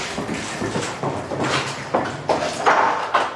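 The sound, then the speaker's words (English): A door is opened into a building's basement at the bottom of a center stair tower, with a few scraping and clunking sounds near the end. Before it, a steady run of footsteps on a hard floor as a person walks down with a dog. No one speaks. “There's the door.”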